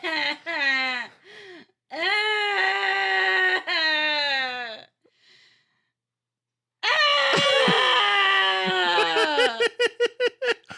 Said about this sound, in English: Is that a cry? Is that a scream? Is it a laugh? The answer is all of the above.